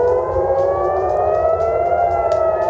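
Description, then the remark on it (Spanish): An air raid siren sounding in Bahrain wails steadily and loudly, its tones slowly sliding upward over a continuous low rumble, with no voices present. “Además, esas sirenas antiaéreas también están sonando en Bahrein.”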